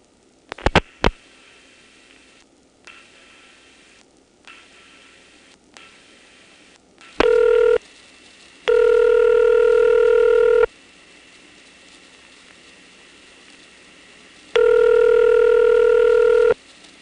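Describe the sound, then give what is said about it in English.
A few sharp clicks as the last four digits of a ringing number are dialed over Hoadley trunks on a quiet, hissy telephone line, then the typical ESC ringback cadence: a brief first ring out of sync, followed by two longer two-second rings. “So I'll go ahead and dial the last four digits of a ringing number. You'll notice the typical ESC ring cadence, where the first ring is out of sync with all the rest.”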